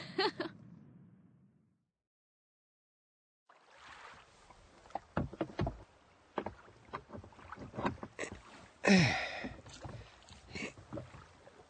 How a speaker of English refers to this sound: Come on, let's go and have a row in a rowing boat.